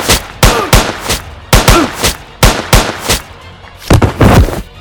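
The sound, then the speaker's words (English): A rapid volley of loud gunshots, roughly a dozen sharp cracks in uneven bursts with brief pauses between, as bodyguards empty their guns into a door after a knock; some shots land with heavy thuds in the door. “I knock and let them empty their guns into the door.”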